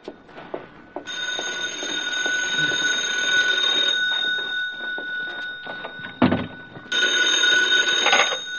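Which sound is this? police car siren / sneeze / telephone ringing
telephone ringing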